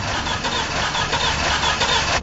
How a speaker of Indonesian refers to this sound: Akhirnya aku pun menepi ke pinggir jalan. Aku coba nyalakan lagi mobil ini. Apa sih ini? Masa mogok?